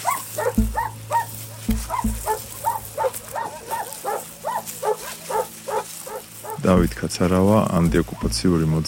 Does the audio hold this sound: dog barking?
yes